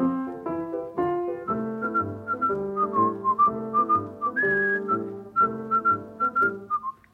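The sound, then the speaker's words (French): Someone whistles a lilting tune, clear, each note gliding into the next over a steady instrumental accompaniment. No one speaks. “Tu pourrais pas siffler autre chose, dis.”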